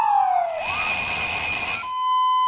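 A loud emergency vehicle siren sounds, its tone first sliding downward and then holding a steady, harsh wail with rough noise underneath, heard on its own without any talking.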